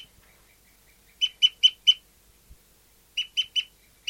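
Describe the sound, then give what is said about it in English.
A bird, bird 5-9, calls while trooping: a run of four sharp, harsh calls, a pause, then three more. Each note is loud and evenly spaced, with faint softer calls in between and no talking. “Start recording bird 5-9 is still trooping after 30 seconds.”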